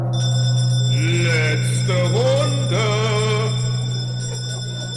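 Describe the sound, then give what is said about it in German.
Heavy bells struck once with a very heavy iron hammer ring out in steady, sustained metallic tones, a low hum and bright high partials holding throughout while wavering overtones swell and fade over the drone. “Und dann hat Süd mit so einem ganz schweren Eisenhammer einmal gegen meine Glocken gehauen.”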